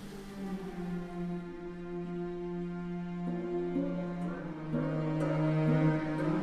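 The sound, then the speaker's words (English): An orchestra holds sustained, slowly shifting chords that swell louder toward the end, while water percussion adds a few sparse splashes and taps over the top; no one speaks. “You're hearing an excerpt of his first piece of organic music, written in 1998, his Water Concerto for Water Percussion and Orchestra.”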